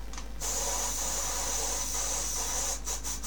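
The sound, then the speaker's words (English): An aerosol air freshener sprays in one steady, fairly loud hiss for about three seconds, sputtering briefly in short bursts near the end, with no talking. “Make the dog sneeze because I just used some air freshener.”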